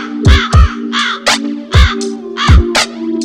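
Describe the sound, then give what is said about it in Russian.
A crow caws repeatedly in harsh, rasping bursts, loud, over a steady musical beat with deep thumping kicks and a sustained low tone. “Над лужей крови ворон закаркал, блять.”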